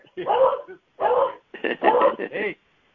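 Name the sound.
dog whining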